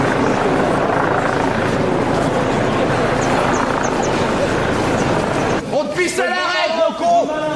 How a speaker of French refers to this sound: Et un hélicoptère survole toujours la ville.